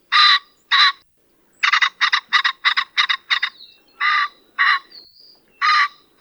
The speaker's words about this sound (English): The song of the common pheasant is a distinctive two-note cock-er that's only sung by the males and isn't nearly as impressive as their plumage.